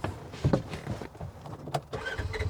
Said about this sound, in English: The three of us get in the side-by-side and head out for a tour.